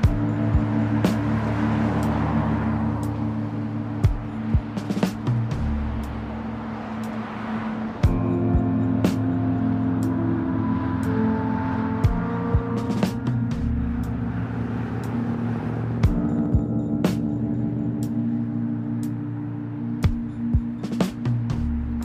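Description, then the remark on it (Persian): A steady engine drone of three cars driving one after another along a road toward a villa, continuous throughout with a low rumbling hum and occasional small knocks and bumps. “هر سه ماشین پشت سر هم تو جاده در حال حرکت به سمت ویلای مالک هستن.”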